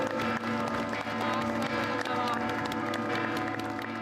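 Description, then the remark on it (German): A large crowd of thousands of believers breaks into sustained applause, a dense, steady roar of clapping mixed with murmuring voices that stays loud and even throughout, as the wooden statue of Saint Nicholas is carried at 6 in the morning from the cathedral through the old town streets of Bari, southern Italy. “Applaus der tausenden Gläubigen brandet auf, als der Heilige mit dem dunklen Gesicht, dem grauen Bart und dem goldenen Heiligenschein morgens um 6 aus der Kathedrale durch die Gassen der stolzen süditalienischen Stadt getragen wird.”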